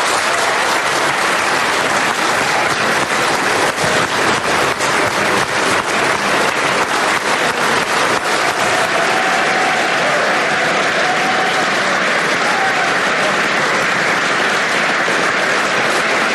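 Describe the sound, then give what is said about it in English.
Sustained, loud applause from the government benches in Dáil Éireann after the vote nominating Simon Harris as Taoiseach, steady dense clapping lasting the whole stretch with a faint murmur of voices underneath and no clear speech. “So there you hear the applause from the government benches, the new Taoiseach being congratulated now by his colleagues, is shaking hands with Eamon Ryan there a moment ago with Micheál Martin, and all the government benches are on their feet”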